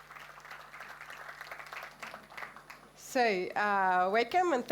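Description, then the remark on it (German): An audience applauds steadily for about three seconds, a dense wash of clapping at moderate volume, welcoming a speaker introduced to present on publishing and sharing code; then a single voice starts speaking as the clapping fades. “Give up the applause”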